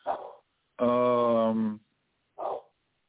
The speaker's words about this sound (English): Now I got all these hounds around me. I got, let's see, three dogs in this house and a pig. But anyway, one of the dogs is going off right now about what I don't know.